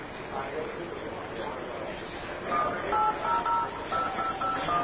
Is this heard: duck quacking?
no